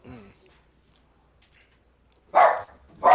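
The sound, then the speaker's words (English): A dog barks twice, two loud, sharp, mid-pitched woofs in quick succession, following a short trailing bit of human voice and a moment of near silence. “Hey, the dogs agree.”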